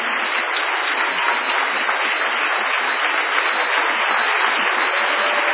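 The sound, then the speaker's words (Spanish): Sustained applause from a large concert audience for the musicians, including the Camerata Bariloche, fills the whole stretch, a dense, even roar of many hands clapping at steady loudness with no voices standing out. “Y les pido otro aplauso para estos grandes músicos.”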